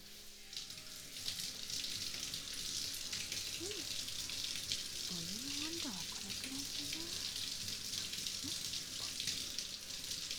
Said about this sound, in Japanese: 僕の全身にタオルをかぶせて、その上からシャワーかけていきまちからね。